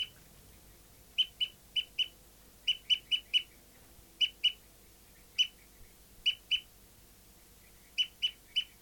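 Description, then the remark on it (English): A bird, recorded as bird 59, gives a repeated tooping call, still going after 30 seconds: short, bright, mid-high notes in quick groups of two to four, with brief pauses between groups, standing out clearly over a low background hum. “So recording bird 59 is still tooping after 30 seconds.”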